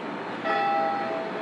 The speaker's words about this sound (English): For the longest time, I thought that bell was a big speaker with a recording of a bell, but I think it's actually a bell. Yeah, it sounds like a bell to me.